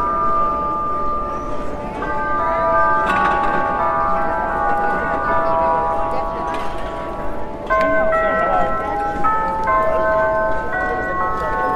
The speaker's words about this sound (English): Oi, the bells!